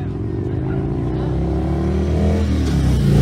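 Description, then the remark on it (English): A police car rolls slowly past, its engine a steady, deep low rumble that swells slightly as it goes, with no siren sounding. “Here comes another cop car very slowly.”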